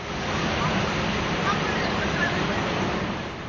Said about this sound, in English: And as the sun sets and the tide comes in, he's left wondering if tonight is the night that a wave will take away his house.